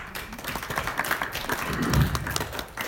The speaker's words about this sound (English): I think we can applaud for their wonderful worship experience. Let's do that.